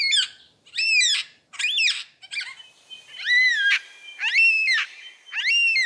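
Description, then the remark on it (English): A superb lyrebird mimics the drawn-out, wailing screeches of a yellow-tailed black cockatoo, followed by the real cockatoo's calls: about seven loud, harmonic cries in steady succession, with no talking. “Here's his impression of a yellow-tailed black cockatoo. First, you'll hear the lyrebird, and then the bird that he's mimicking.”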